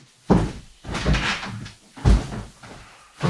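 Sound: front door being opened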